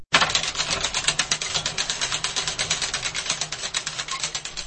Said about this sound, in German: die Kurbel mit einem Schlüssel entsichern, dann beginnt sie zu drehen, was, wie sie sagt, schon ein wenig Muskelkraft erfordere.